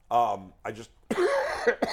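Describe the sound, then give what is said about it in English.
Several loud coughs and throat-clearing sounds come in quick bursts, rough and partly voiced, with short pauses between them. “You cough.”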